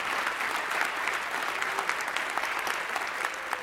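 An audience claps steadily together, a dense, sustained wash of applause at moderate volume, with no voices standing out above it, clapping for those who received Jesus into their heart two weeks earlier.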